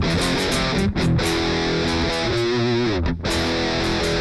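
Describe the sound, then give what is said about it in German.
Loud, heavily distorted rhythm guitar chords played on the bridge pickup ring out with a thick, fizzy tone from a 2000s-style digital multi-effect unit, sustaining across the bars with two brief choppy breaks between chord changes. “So klingt für mich der mit 2000er digitale Multi-Effekt Rhythmus-Gitarren-Sound.”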